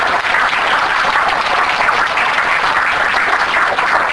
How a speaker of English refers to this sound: I want to thank you all. Let's give a round of applause for our panel.